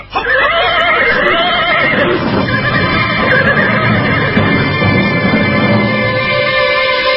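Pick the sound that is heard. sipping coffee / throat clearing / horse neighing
horse neighing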